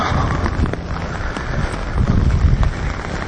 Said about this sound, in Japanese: 雨に、傘に雨が当たる音が、ちょっと人が来ます。すれ違いました。